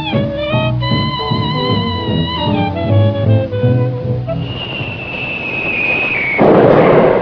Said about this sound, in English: Boy, that sounds like one of them Ipsen Darien bombs.